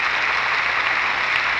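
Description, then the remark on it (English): Steady audience applause on the Lux Radio Theater broadcast, a dense, even wash of many hands clapping at a constant, fairly loud level with no voices standing out. “Your three strong reasons for that applause.”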